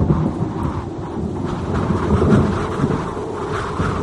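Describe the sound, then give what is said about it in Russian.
A loud thunderstorm coming from the Vishera: deep rolling thunder rumbles continuously over steady rain hiss, swelling slightly midway, with no voices present. “С Вишеры шла буря.”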